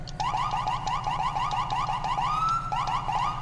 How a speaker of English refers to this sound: I did change the sirens since the last time I recorded a 5PD episode. Listen to these bad boys.